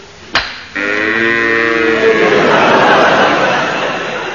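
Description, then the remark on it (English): After a brief sharp knock, a cow lets out a long, loud, drawn-out moo that slowly breaks into a rougher, noisier bellow before fading slightly at the end. “bring those cows up.”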